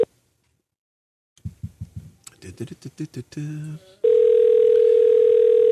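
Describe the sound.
A short burst of voices is followed by a steady, loud, unbroken telephone dial tone that holds one pitch for the last couple of seconds, as a call is placed to a listener.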